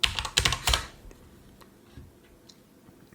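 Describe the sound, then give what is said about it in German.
Rapid, loud typing on a computer keyboard right next to the microphone for the first second, a burst of sharp clicks, then a few scattered, quieter key taps trailing off with no speech. “Sorry, dass das Tipp immer so laut ist, ihr Lieben. Mein Mikro ist da direkt neben der Tastatur.”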